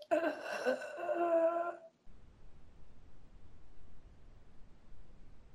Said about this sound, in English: That wasn't me. I'm not sure what that was. Huh. I hope somebody's okay out there. Sound like a breathing issue.